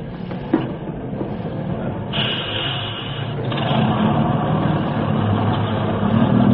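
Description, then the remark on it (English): A bus's engine rumbles steadily, with a brief hiss of air brakes as it comes to a stop on a street, then settles into a loud, continuous idle. “Just at that moment, a bus came to a stop, and I got on.”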